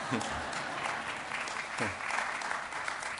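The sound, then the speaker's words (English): A crowd applauds steadily for a few seconds, a dense, even patter of many hands clapping at once, with a brief voice breaking through near the start and again midway. “Now that's the guilt clap, because they knew they should have clapped to the others.”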